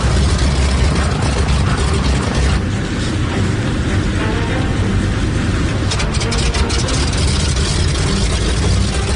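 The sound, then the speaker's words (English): Aircraft engines run up before takeoff with the crew aboard, in a continuous, loud roar with a heavy low rumble and a broad hiss on top, holding steady for the whole stretch with no voices. “So it looks like to me they're actually in the aircraft doing a run-up.”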